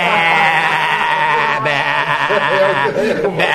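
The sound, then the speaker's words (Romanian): A person imitates a sheep's bleat with a long, loud, wavering vocal 'baa' that quivers continuously for several seconds. “Vă mândriți că sunteți ce sunteți niște lupi, dar eu sunt o oaie.”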